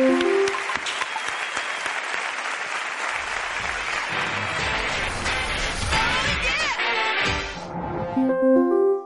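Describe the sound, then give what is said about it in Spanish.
An audience at a charity event breaks into sustained applause for young people who recited words by Arturo Pérez-Reverte, a dense wash of clapping that holds steady for several seconds, with a few cheers and whistles rising above it before it tapers off. “Un gran aplauso para ellos.”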